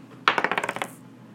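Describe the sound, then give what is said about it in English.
Dice rolled by hand on a hard tabletop clatter in a quick run of about ten sharp clicks, bouncing faster and softer until they settle, showing an eight. Fairly loud, with no voices. “Roll the dice. You gotta pick it up and just kind of roll it on the table.”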